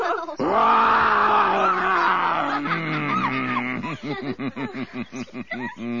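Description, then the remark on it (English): A human voice lets out a long, loud imitation of a lion's roar, then trails into a run of rhythmic, panting growls, alone with no talking. “I'm going to roar. You'd better put your fingers in your ears.”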